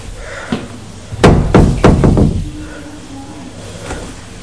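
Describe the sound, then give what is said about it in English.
A door is opened and closed several times in quick succession in a study, a burst of wooden bangs and latch clatters, followed by quiet room noise. “In the study anyway, open the door, close the door, open the door.”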